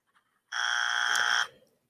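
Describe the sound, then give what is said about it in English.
A single harsh electronic buzzer blares for about one second, loud and steady with a rasping tone, then cuts off abruptly into silence. “I'm not sure what that means, but this deserves a buzzer.”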